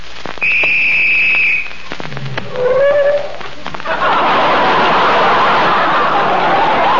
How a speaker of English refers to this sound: Sorry, old man. Somebody blew the whistle by mistake.